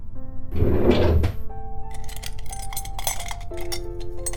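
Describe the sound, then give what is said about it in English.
A drawer slides open with a loud, scraping rush, then scattered clicks and light clinks follow as things inside are rummaged for bandages, all over a steady low background hum. “Why don't you get some bandages from that drawer over there?”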